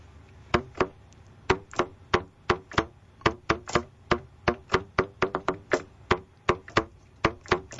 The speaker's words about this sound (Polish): To może powiemy, że Maciej Fortuna uderzył teraz z otwartą dłonią w tłumik, w ustnik trąbki. Tak, taki efekt możemy wykonać, tylko że usłyszymy go zmultiplikowany razy 100.